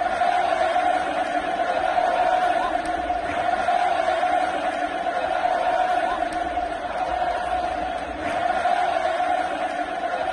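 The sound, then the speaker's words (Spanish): A crowd of 95,000 at a full Camp Nou chants "Messi" in unison during a Barcelona–Ajax European Cup semi-final. It is a loud, dense roar of voices that holds steady throughout, with a sustained sung tone and occasional swells. “Gritos de Messi, Messi, Messi.”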